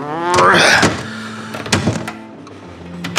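A latch clicks and an overhead luggage compartment lid in a train's storage car swings open with a mechanical whir, followed by soft thumps and knocks as a piece of luggage is pushed inside, with no talking.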